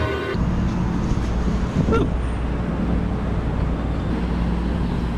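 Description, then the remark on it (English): Steady low rumble and road noise from inside a moving electric trolleybus running from wires above the street in Philadelphia, carrying three riders, a continuous hum with faint rattles and a brief whine near the start, no voices. “The only East Coast city that has electric buses that run from wires above the street. And that's what the three of us are on right now.”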